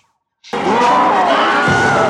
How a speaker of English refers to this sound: Well, you were right to think there was a Wilhelm scream. Let's hear that one. I think. Right here, yeah.